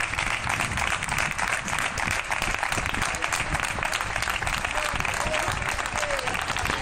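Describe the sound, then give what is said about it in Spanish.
Dense, steady applause from many people clapping at once on balconies at 8 in the evening for healthcare workers: doctors, nurses, drivers, cleaners and orderlies. A continuous crackling wash of hands holds at an even loudness throughout, with faint voices mixed in. “aquí te lo contamos, salimos a los balcones a aplaudir a nuestros sanitarios, a los médicos, enfermeros, conductores, limpiadores, celadores.”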